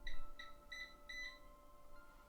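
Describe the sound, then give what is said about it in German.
A Eufy robot vacuum cleaner, supposedly switched off while its buttons are being pressed, emits a series of short, high-pitched electronic beeps, about four bursts in quick succession, some doubled, over a faint steady hum, moderately quiet. “Der piepst.”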